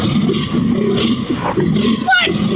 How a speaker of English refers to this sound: Right, a European fallow deer.